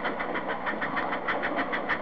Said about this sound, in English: Listen to that. Here's a passing train. This is a sound that I heard all through my childhood. Nothing but trains.